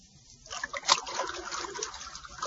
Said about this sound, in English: It's water, Bucky. And unless you tell me what I want to know, more water, much more, will continue to bore into this room